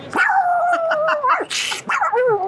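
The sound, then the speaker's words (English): A person imitates a pug, producing a long whiny, nasal yowl followed by a breathy snort and a couple of shorter yapping, whimpering barks, loud. “I honestly thought when I moved to Los Angeles, I would be able to bark like a pug.”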